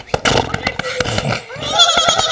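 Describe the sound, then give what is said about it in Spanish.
A person sitting under a tree at school recess imitates a horse's whinny with the voice to show children how, a loud, shaky neigh that pulses rapidly and rises into a quavering high pitch toward the end. “En el recreo, se sentó debajo de un árbol y enseñó a unos niños y niñas a imitar el sonido de los caballos.”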